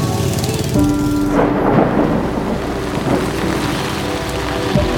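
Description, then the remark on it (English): Steady, heavy rain pours down in a dense hiss as the day darkens, with deep rolls of thunder rumbling underneath. No voices are heard. “And then, as if on cue, the day darkened and the rain came.”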